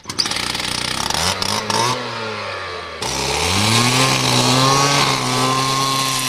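A loud, continuous whine of an angle grinder's cutting disc as a Regibahn worker slices through a railway track, its pitch dipping and rising as the blade bites, with a broad hiss of grinding throughout, marking the symbolic start of construction of a new Regibahn station at Galdau.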